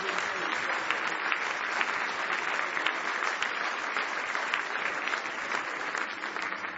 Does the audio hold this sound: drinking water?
no